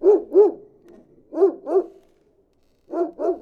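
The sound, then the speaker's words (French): A dog barks on the other side of an apartment's partition wall in pairs of muffled, deep woofs, three doubled bursts separated by short pauses, sounding dulled through the wall, starting before the doorbell is rung. No one speaks. “De l'autre côté de la cloison, un chien s'est mis à aboyer avant même que j'appuie sur la sonnette.”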